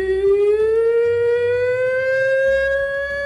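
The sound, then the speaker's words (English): At a pig-calling contest, a contestant's pig call sounds like a police siren: one loud, sustained human wail that slowly rises in pitch, unbroken, with no other talking. “Right, that's a police siren, isn't it?”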